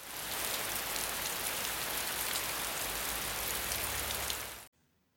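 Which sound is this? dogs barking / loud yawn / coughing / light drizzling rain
light drizzling rain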